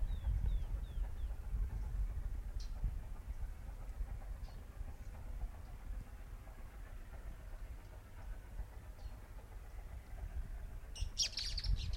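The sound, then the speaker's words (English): Three birds chirp and call at once, with short high descending notes and scattered tweets over a steady, loud low rumble, and a brighter burst of calls near the end. “Three birds singing at once on it.”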